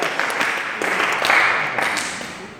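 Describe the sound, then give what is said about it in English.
A crowd claps together in a steady, dense burst of applause for a couple of seconds, with no one speaking. “Clap your hands, please.”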